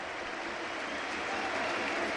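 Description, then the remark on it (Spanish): The stadium crowd at Montjuïc gives a sustained ovation as Lamine Yamal, scorer of one of Barça's four goals, is substituted off for Ansu Fati: a dense, steady roar of applause and cheering that holds at a constant, fairly loud level throughout, with no single voice standing out. “Vamos a escuchar cómo despide Montjuic a Lamine Yamal, autor de uno de los cuatro goles del Barça.”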